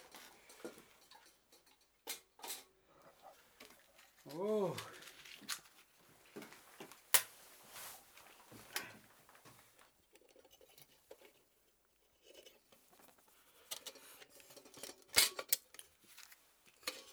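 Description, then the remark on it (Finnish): Someone lights an oil lamp: quiet clicks and scraping of handling, a brief rising metallic squeak, and a few sharp strikes spread over the stretch, with no one talking. “ensimmäiseksi sytytän tuo öljylyhyn tuota, niin valaisemaan siihen, jotta nähdään tuota, niin täällä tee.”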